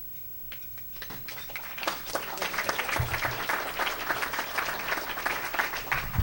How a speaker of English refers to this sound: I was a little nervous with the silence there, so thank you for the almost overwhelming applause.